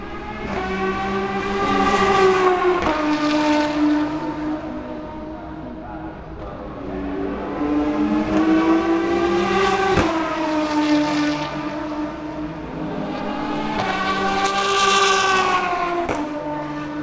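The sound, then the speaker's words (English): A loud, high-revving race car engine whines past repeatedly, its pitch climbing and dropping with each pass, roughly three sweeps in a row with no talking. “So we're going to open up actually with a little bit of sound signature of it passing by, which I've never done before, so that's something new.”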